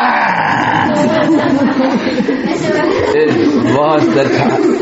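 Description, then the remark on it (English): A person imitates a tiger's roar with a loud, sustained, rumbling growl lasting several seconds, the voice wavering and breaking into throaty, almost laughing bursts. “It was the tiger.”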